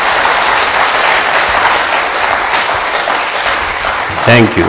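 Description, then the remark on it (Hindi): Loud, steady applause from a large crowd in a hall, a dense rush of many hands clapping without a break, with a brief voice rising over it near the end. “और आपके स्वागत में मैं आपसे अनुरोध करूंगा कि कृपया जोरदार तालियों से इस हॉल को भेजा दें, जोरदार तालियों।”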